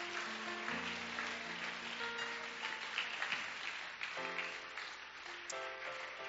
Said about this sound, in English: If you're a guest this evening with us, would you just slip your hand up? Amen. We're going to give you a hand clap because you took time to come.